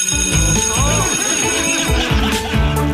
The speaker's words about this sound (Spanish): Oye, están tocando el timbre en la escuela, todavía no. Espere, espere, espere, tío, espéreme.